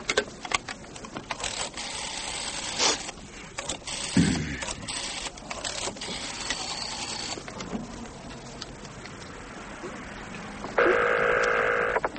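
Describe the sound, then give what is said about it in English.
Clattering, rustling noise fills a hotel room before a telephone starts ringing near the end, a steady electronic trill that comes in loud. “You can phone from here.”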